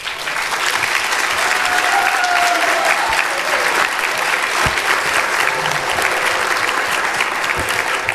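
Sustained applause from an audience fills the room, a dense, steady clatter of many hands clapping at an even loudness throughout, with no speech over it.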